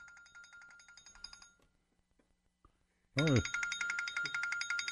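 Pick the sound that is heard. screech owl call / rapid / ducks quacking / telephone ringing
telephone ringing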